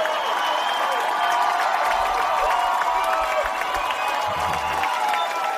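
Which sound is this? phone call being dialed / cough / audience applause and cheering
audience applause and cheering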